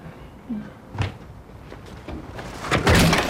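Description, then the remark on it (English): A woman swings a house door and slams it shut with a sharp thud, followed a moment later by a heavier, louder bang as a man bangs his head against it, with faint rustling in between. “As he makes to come in, she shuts the door and he bangs his head on it.”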